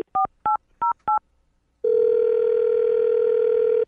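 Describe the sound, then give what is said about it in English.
Four quick, evenly spaced touch-tone beeps from a phone keypad, followed by a loud, steady telephone tone that holds unbroken for about two seconds. No one speaks. “I'm going to dial the phone number right now, get her on the phone, and see if we can figure out why she's not calling you back.”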